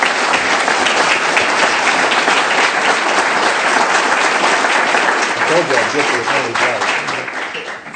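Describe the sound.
Sustained applause from a large audience at a debate held in a church, dense and steady, with a few voices rising underneath toward the end as the clapping begins to thin out.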